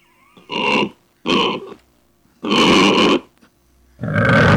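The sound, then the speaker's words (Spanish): A small pig squeals and grunts in four loud, harsh bursts separated by short pauses, with no one talking. “Dice, vamos a matar a ese cerdito para festejar.”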